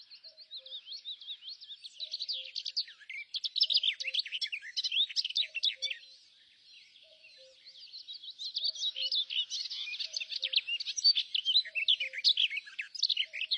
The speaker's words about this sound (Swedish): att trädgårdssångaren, det är kanske fågelvärldens genuina samhällsvetare som ständigt debatterar och pläderar och förfäktar sina åsikter. Kanske sjunger de och argumenterar i syfte att göra skogen till ett bättre ställe för fåglarna att leva på.